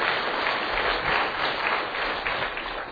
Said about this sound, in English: So isn't it exciting what God is doing? And, yeah, clap for the Lord. Clap for the Lord.